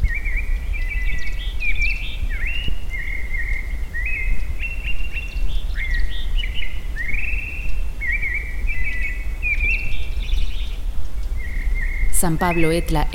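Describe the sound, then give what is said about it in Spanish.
Birds sing steadily in a high forest at over 3,000 metres altitude, with repeated whistled and warbling phrases over a constant low rumble of wind, and a brief burst of chirping near the end. “En el bosque alto solo se escucha el sonido de los pájaros y del viento.”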